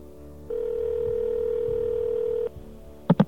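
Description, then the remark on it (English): A telephone line ringing after a number is dialed: one steady electronic ring tone lasting about two seconds, heard through the receiver, followed by a pause and a couple of quick clicks. No one speaks. “Well, it rings.”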